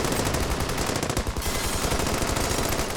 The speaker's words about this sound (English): Pablo and the police traded gunfire for over an hour.